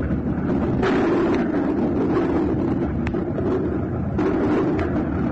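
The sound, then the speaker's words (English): Several sharp, booming reports from naval guns as a gun crew aboard a convoy ship does practice shooting to train regular crew members, spaced irregularly over a steady roar of wind and ship engine noise, with no one speaking. “Well, that's only practice shooting now.”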